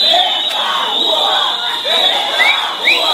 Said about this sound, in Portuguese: Durante a passeata, que foi acompanhada por policiais militares e agentes de trânsito, muitos gritos em coro.